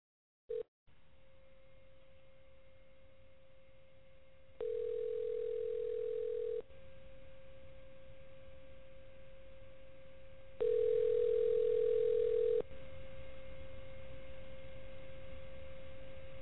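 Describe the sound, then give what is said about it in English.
Phone ringback tone on an outgoing call made live on air: two steady two-second rings about four seconds apart, sounding over a constant low line hum with no one speaking. “We're going to try to do some things live on the air. So let me make another phone call.”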